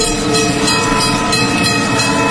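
A train rumbles past on the railway at a level crossing, a loud, continuous roar of wheels and carriages with a steady mechanical rattle, filling the whole stretch without pause.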